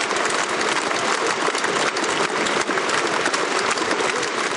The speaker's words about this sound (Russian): А вот угадайте, с какого съезда отзвучали сейчас овации, а? И какой партии?